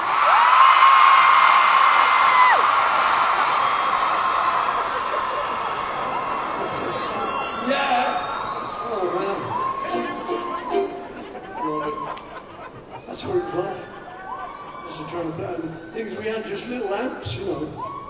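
A crowd of girls lets out a loud, sustained scream for several seconds, which then fades into scattered laughter, whoops and chatter across the room.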